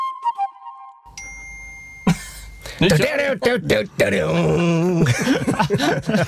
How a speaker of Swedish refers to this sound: Fantastiskt, var det där plinget verkligen räck-knappen? Nej, det var någons telefon. Ja. Ja, det där var ju min telefon som sköt iväg sig där.